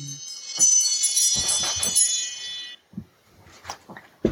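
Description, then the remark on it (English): A phone alarm rings out in a bright, high-pitched electronic chime for nearly three seconds, mixed with a few soft thumps, then cuts off, leaving scattered quiet clicks and rustles. “I thought I had my phone turned down, but the alarm came anyway, so apologize for that.”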